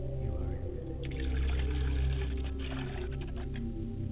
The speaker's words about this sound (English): I pour the water. I set a glass of water before my father's spirit, and I say, Ashe.